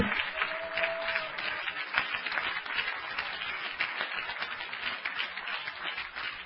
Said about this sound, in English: Hey, that was all free, but clap your hands anyway.